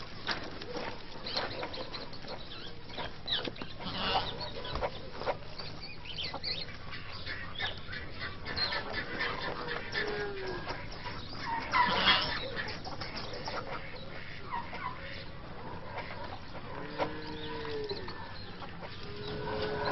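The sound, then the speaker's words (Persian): A busy, continuous chorus of hens clucking and squawking, with a rooster crowing near the end. The sound is dense and unbroken, with no talking. “خیلی قیلوغال مرغ و خروسا کم بود این آهو هم اومد روش.”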